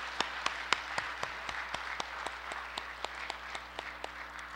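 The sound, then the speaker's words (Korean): A church audience applauds together to approve adopting a new church name, a steady patter of many hands clapping with sharper individual claps popping out, sustained for several seconds at moderate volume with no talking. “자, 그러면 우리 가시면 박수로 한번 하나 경매 돌리십시오.”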